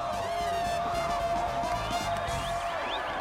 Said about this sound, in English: The girls from the frat party, the Hillbilly fans, and many others cheer as the team mounts a stage.